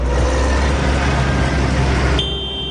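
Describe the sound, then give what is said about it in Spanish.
Hundreds of tractors on the move near Madrid roar in a loud, continuous low rumble, and near the end a shrill, steady tractor horn blares over the noise. No one speaks. “Es el rugido del motor y el pitido, ese estridente de los tractores, cientos que han partido desde primera hora de la mañana”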